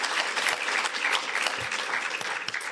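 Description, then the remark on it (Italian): An audience applauds steadily for Davide Gentile at the end of an interview, a dense wash of many hands clapping at even loudness for a few seconds, with no voices rising above it. “Un applauso, grazie Davide Gentile.”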